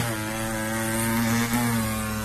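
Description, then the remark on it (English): A voice mimics a hair trimmer with a steady, loud electric buzz that holds one low pitch, wobbles briefly, then drones on for about two seconds. “Give me a trim. A trim.”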